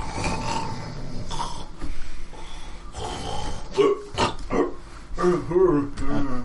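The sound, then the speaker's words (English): Rough, snorting snores of someone in another room rumble in irregular throaty bursts with gurgling, grunting textures, the louder pulses clustering toward the end, with no clear speech. “You hear someone snoring in the other room”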